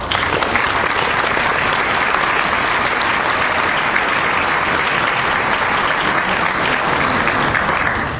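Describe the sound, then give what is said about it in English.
Steady, dense applause from a sizable crowd for the hexographer Inkwell Eddies, loud, with many hands clapping together in an even roar and no voices standing out. “round of applause for the hexographer, Inkwell Eddies.”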